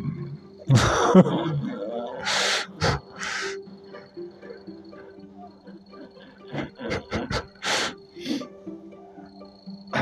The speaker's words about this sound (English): What the hell was that? That was a sneeze and a laugh.